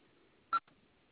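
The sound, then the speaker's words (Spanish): A telephone keypad tone sounds as the number 3 and then the pound key are pressed during a call: one loud, short electronic beep, followed moments later by a much fainter, briefer second tone over a low background hum. “Va a presionar ahora el número 3 y gato.”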